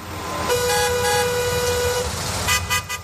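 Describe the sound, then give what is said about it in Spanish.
Busy city street traffic rumbles steadily while a car horn blares in one long sustained honk, followed near the end by a few shorter, choppier bursts of horn and engine noise. “También del tráfico de las ciudades.”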